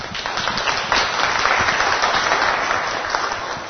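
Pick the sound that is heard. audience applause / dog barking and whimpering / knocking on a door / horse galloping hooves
audience applause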